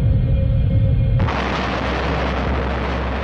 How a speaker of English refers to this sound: In 1908, on June the 30th, there was a massive explosion over Siberia. The region of Tunguska sees the biggest explosion in human history.